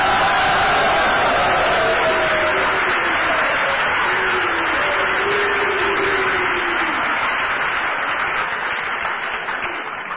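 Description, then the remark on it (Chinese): A large audience at a Chinese crosstalk (xiangsheng) comedy show claps steadily and loudly to welcome the performers onto the stage, a dense continuous roar of hands with faint cheering mixed in for the full ten seconds, fading only slightly at the end. “下面要为您送上相声我要奋斗，请您用掌声请出哈巴哈一片。”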